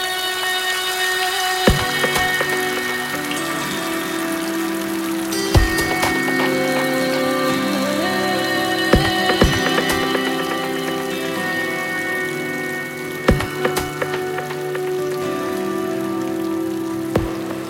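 Steady rain falls in a continuous hiss, with a few louder, sharper drips or splashes scattered throughout. No voices are present.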